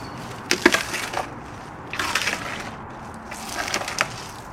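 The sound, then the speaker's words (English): A male elephant being fed palm crunches the fronds: three bursts of dry, splintering, crackling chews with brief pauses between, fairly loud with bright snapping highs, no talking. “He's going to give you some good crunching sounds here.”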